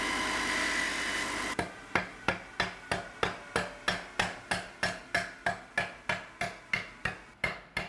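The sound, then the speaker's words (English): A brief whir of machinery cuts off, then a wooden bat hammers a sharpened saw tooth into place to set it, with about eighteen sharp, evenly spaced knocks in a steady, brisk rhythm, loud. “Telling me you can hammer on a sawtooth that's been sharpened to set it in there and it's completely fine?”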